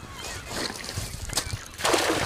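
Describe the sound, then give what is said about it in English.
Water sloshes and churns, then a throw net, thrown by a fisherman catching hooligan from the bank, hits the river with a sudden, broad splash near the end that keeps hissing and spattering. “The net splashes into the water and he starts reeling it in.”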